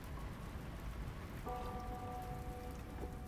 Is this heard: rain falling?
yes